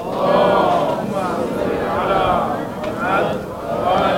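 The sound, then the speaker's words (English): A large crowd chants a salawat together in unison, many voices blending into a loud, sustained drone that swells and dips in rhythmic waves throughout. “You can do a much better salawat than that, inshallah, please.”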